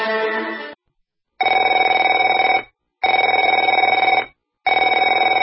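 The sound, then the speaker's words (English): A telephone rings in repeated bursts, each about a second long with short silent gaps between, a loud, steady electronic trill heard alone with no voices. “Afraid to answer it?”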